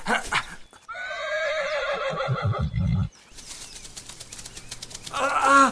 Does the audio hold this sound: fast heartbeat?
no